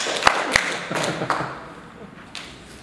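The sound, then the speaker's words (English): A handful of scattered, sharp claps from an audience in a room, sparse and irregular rather than sustained applause, fading out after a couple of seconds, during a technical talk about going serverless with Auth0's Webtask. “Come on, let me hear all the applause in the room.”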